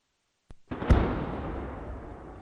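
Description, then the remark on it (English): A sharp crack followed by a heavy, booming explosion that rolls out into a long, rumbling decay, loud, with no voices present; explosions in a war zone in Ukraine's southeastern Zaporizhia region. “Despite the sound of explosions thundering in Ukraine's southeastern Zaporizhia region, agriculture machines keep driving towards the fields belonging to farmers.”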